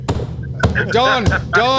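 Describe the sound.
Three heavy thumps of a hand slamming down on a tabletop, spaced unevenly, with loud voices and laughter carrying on between and over the hits.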